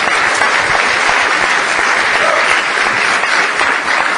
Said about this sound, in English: But first of all, I want to give you a round of applause and thank you so much. Thanks.